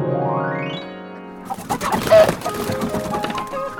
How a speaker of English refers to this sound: I do love it here on my chicken farm. Now, how are we today, my chickens?